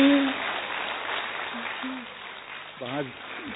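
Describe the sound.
A crowd applauds steadily throughout to thank a speaker after her talk urging Brahma Kumaris Rajyoga meditation, a dense patter of clapping that fades slightly, with a brief voice breaking through near the end.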